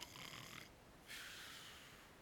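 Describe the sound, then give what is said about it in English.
A voice imitates Jesus snoring as he sleeps on a cushion, with two drawn-out, raspy breaths, the second following a short pause. The sound is fairly loud. “See, my Jesus snores because I'm made in his image and likeness, and I snore.”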